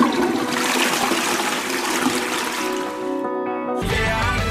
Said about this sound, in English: Can we get a courtesy flush?